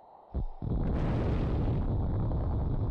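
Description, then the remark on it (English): A sudden, loud explosion bursts in, followed by a sustained, deep rumbling roar that fills the rest of the moment. No voices are heard. “That explosion just killed the others.”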